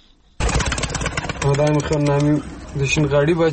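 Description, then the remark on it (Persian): Pigeons kept by a pigeon fancier in Kabul, Afghanistan, coo in a few low, throaty, drawn-out phrases over a steady busy background of rustling and rumbling noise. “هر روز صبح برای تماشای پرواز کفترایش در آسمان کابل بالای بام میاید.”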